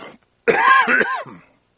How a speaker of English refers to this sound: excuse me. I just had COVID and I had to cough.